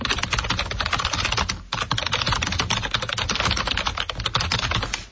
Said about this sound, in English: So what do we have on this one? Is it a keyboard or is it the static sound of somebody welding? No. I think that was a keyboard. That's probably the more inside the office side of Public Works. So I think that was a keyboard.